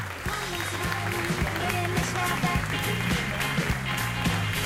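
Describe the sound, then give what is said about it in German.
A studio audience applauds steadily for several seconds as incumbent Carsten Sieling is welcomed, a dense wash of clapping over an upbeat music track with a regular low beat. “Ich weiß gar nicht, ob Sie es mit dem Applaus hören können.”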